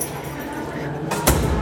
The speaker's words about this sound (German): Tür geht zu.